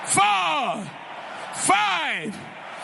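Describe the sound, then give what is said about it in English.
A church audience shouts glory to the Lord twice, each long, loud voiced cry rising then falling in pitch, with a short pause between the two shouts. “Give the Lord 7 shouts of glory.”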